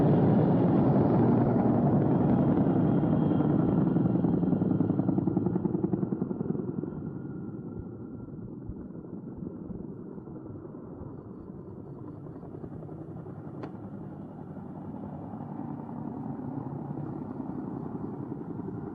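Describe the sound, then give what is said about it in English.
A helicopter, quite a ways off, coming in to land in the dark with its light on: a steady rotor thrum and engine drone, loud at first, then dropping to a lower, quieter rumble after a few seconds, with no voices. “Him coming in for that landing? He's quite a ways off, so I guess you won't be able to hear him too well, but right now he's got his light on, so you know it's dark.”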